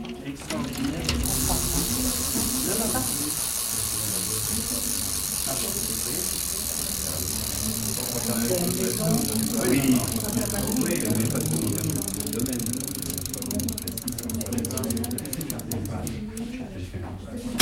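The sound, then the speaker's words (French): The freewheel of Fausto Coppi's old racing bicycle spins with a steady whirring, ticking rattle over a constant airy hiss, growing faster and sharper toward the end, with faint voices murmuring underneath. Recorded for Clermont on Saturday, 6 July 2002. “Me faire tourner un petit peu le son du vélo de Fausto.”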